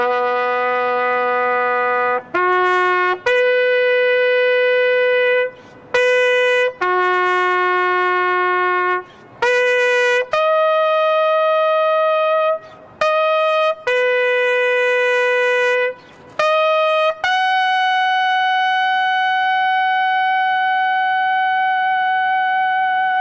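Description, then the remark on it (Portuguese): A lone bugle, played by a member of the Military Police, sounds taps (toque de silêncio) at a ceremony for the Brumadinho dam tragedy at the Minas Gerais Legislative Assembly: slow, bright brassy notes stepping between a few pitches, short pickups leading into held tones, ending on one long sustained high note. No one speaks. “A cerimônia contou ainda com a execução do toque de silêncio, um toque de corneta feito por um integrante da Polícia Militar.”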